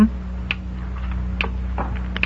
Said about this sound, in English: Behind these boxes, somewhere about here. Sounds like a little clock.